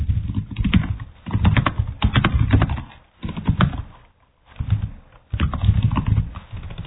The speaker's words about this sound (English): Somebody's typing badly. We can hear you.